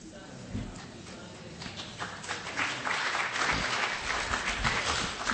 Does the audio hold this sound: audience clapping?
yes